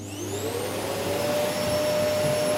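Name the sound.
vacuum cleaner running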